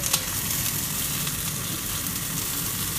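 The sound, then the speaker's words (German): Steady, continuous sizzling of thawed blueberries in a hot frying pan, a dense crackling hiss that stays even throughout with no talking. “Also wir haben, oh mein Gott, wir haben jetzt halt aufgetaut und die machen wir jetzt in die Pfanne und das stellen wir runter.”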